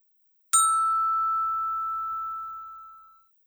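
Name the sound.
school bell ringing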